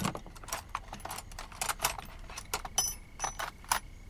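Metal tools clink and rattle as someone rummages through a toolbox, a steady stream of bright jangles and small knocks with no voices.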